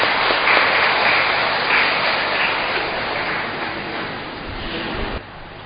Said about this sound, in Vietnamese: Xin cộng đoàn cho chàng vỗ tay chúc mừng.